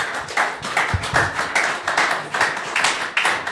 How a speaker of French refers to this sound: On peut l'applaudir bien fort, messieurs, dames.